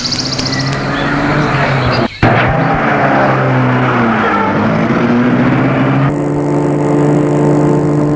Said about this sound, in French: L'homme ouvre la portière à côté de lui et met la voiture en route.